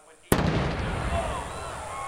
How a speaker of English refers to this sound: A pit crew is lucky to be alive after a drag racer exploded in their faces.